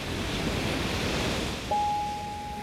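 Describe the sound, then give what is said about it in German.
Steady, rushing surf of ocean waves washing ashore, a continuous broad roar with no voices; partway through, a thin, steady high-pitched tone enters and holds over the surf. “Und dann kommt irgendwann das Meer.”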